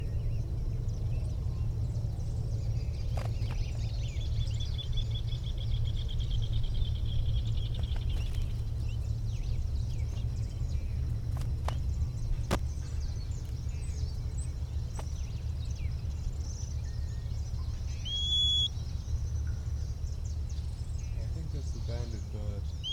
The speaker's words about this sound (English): Bird nearby, maybe giving that little whistle. Female's nearby, or at least the other bird is nearby, the banded individual.